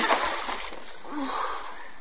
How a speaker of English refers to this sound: See what you've done? You dropped it in the water.